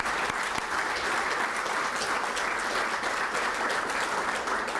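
A room full of people applauds steadily, a dense wash of clapping hands that holds at an even, fairly loud level throughout without any talking over it.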